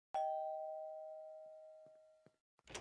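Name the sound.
doorbell ringing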